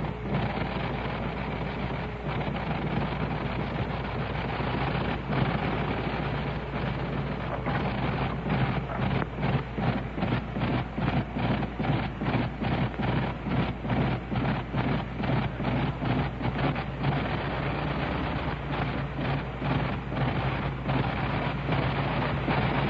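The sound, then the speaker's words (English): A large 425-horsepower Liberty aircraft engine starts and warms up, a loud, dense roaring rumble that settles into a steady, rapid chugging rhythm partway through, with no voices. “Now I'm going to let you turn up your gain, turn up your receiver gain, and you can hear the sound of these 425 horses on this great Liberty engine.”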